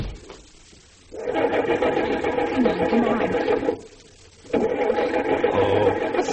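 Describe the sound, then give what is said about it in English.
A car engine cranks in two long, grinding attempts separated by a brief pause, churning loudly without ever catching and starting, because the wires have been pulled loose from the ignition switch. “The wires have been pulled loose from my ignition switch.”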